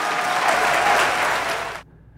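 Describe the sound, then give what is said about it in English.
Loud, dense applause from a large crowd for a woman giving a speech, a steady roar of clapping that holds strong for nearly two seconds before cutting off abruptly into quiet. “So she's getting raucous applause.”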